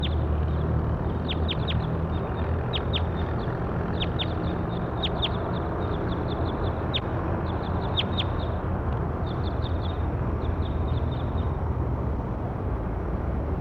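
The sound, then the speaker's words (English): Calls of a bird, labelled bird 8-2, being recorded: bursts of short, sharp, high-pitched chirps repeating in quick clusters over a steady, loud background rumble, with no one talking. “Start recording bird 8-2.”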